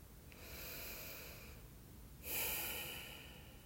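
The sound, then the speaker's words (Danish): A person deliberately breathes loudly enough to hear themselves: a long airy inhale, then a stronger, sharper exhale after a short pause, with no talking. “Larm bevidst med dit åndedræt, så du kan høre dig selv.”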